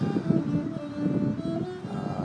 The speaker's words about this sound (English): Just after a storm, so it's breezy, but not quite as humid as it was earlier. Winds out of the west. Storms are traveling far away to the east.